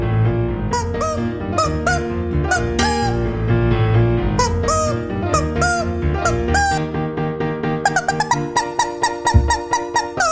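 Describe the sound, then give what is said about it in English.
A rubber chicken squeaks out a quick, honking Mozart melody note after note, loud, over a steady, busy player piano accompaniment playing Mozart, played by a man in a tuxedo in front of the player piano, with no one speaking. “this is Mozart as played on a rubber chicken.”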